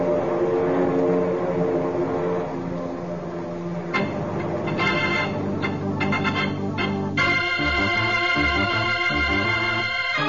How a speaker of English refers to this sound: There's General Lopez's command post, down on the edge of the field, next to the section they've marked off for the mock aerial attack. Here come the planes now, ready to drop their eggs in the Citadel.